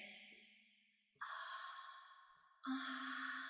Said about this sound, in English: I'm breathing my warm, wet breath into your ear.